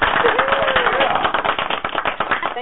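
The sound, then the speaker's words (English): A burst of canned applause from a clapping sound-effect button pressed for a listener from the United Kingdom: many dense, crackling hand claps blending into a steady roar for a few seconds, with a faint voice briefly audible underneath. “And press that clapping button for Shannon Sebald all the way from the United Kingdom.”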